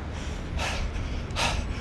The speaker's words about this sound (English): I'm breathing a little bit. Just a little bit, though. Just a little bit.